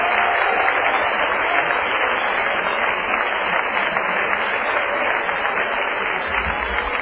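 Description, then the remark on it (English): A church audience claps their hands in worship in a steady, dense wash of applause that holds at an even loudness for several seconds, slightly muffled and without any voices rising above it. “If you're not ashamed of who you are, and you're not ashamed of whose you are, why don't you shout amen? Clap your hands.”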